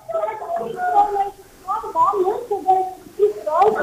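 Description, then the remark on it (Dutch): A small child cries and whimpers in broken, wavering bursts that rise and fall over a few seconds, with possible voices mixed in, inside a toilet building on Texel. “Zo, dat horen we gelijk op de achtergrond.”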